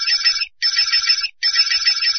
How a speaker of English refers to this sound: Now that noise means you're going through the menu.